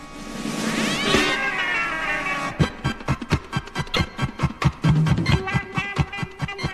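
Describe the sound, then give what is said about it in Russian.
A cat lets out a loud, drawn-out yowling meow that rises and falls as it wakes up, followed by a fast run of rhythmic percussive thumps and clatter as a fight begins. “Но тут кот и пират проснулись.”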